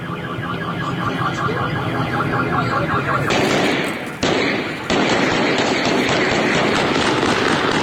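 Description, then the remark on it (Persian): Loud, dense crackle of rapid gunfire at a Saturday-night street protest over salty drinking water in Khorramshahr or Abadan, Khuzestan, Iran, recorded by citizens, with shouting voices and chaotic noise, a brief lull, then the commotion surging again. “ویدیوهایی که توسط شهروندان ضبط شده و به دست رادیو فردا رسیده نشان می‌دهد که این اعتراض‌ها به خشونت کشیده شده و صدای تیراندازی نیز شنیده می‌شود.”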